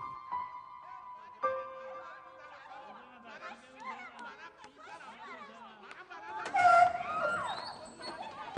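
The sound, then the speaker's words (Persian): A muffled commotion of several agitated voices overlapping as parents scuffle and hit each other in a hallway, with wailing cries rising into a louder, chaotic burst of shouting near the end. “جناب قاضی پدر مادرهای این دوتا تو راه رو دست به یقه شدن، دارن همدیگه رو میزنن.”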